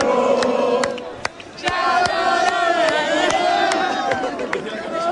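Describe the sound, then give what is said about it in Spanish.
A large crowd of fans at the Estadio Nuevo Colombino sings a rhythmic "sha-la-la" chant in unison, sustained and loud, with sharp claps or drum hits punctuating the dense roar of voices. “Así ha sido el shalalala.”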